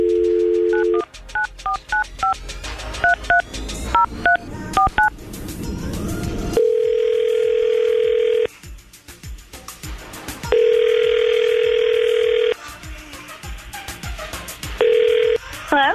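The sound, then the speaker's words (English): A dial tone gives way to a quick run of touch-tone keypad beeps as the 99.5 QYK radio show in Tampa phones a woman, followed by a steady ringback tone that purrs out three times with pauses between, clear. “We'll see if we can get her on the phone right now.”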